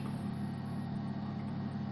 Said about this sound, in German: Genau, weil das, was ihr da nämlich im Hintergrund hört, ist der gute Bauknecht-Kühlschrank.